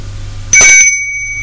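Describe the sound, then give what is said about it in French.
A doorbell at a door on the top floor of a building is rung a second time, a sharp metallic strike followed by bright, high-pitched ringing tones that fade out over about half a second. No voices. “Elle fait le geste de sonner une seconde fois.”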